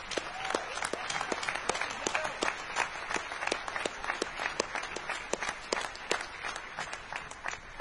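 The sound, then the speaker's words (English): A crowd applauds steadily for several seconds in tribute to the previous organizers of the CTF hacking contest, many hands clapping at once in a dense, continuous patter that holds at an even level throughout without any voices on top. “So let's give those guys a huge round of applause.”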